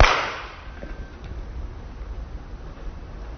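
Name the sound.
hands clapping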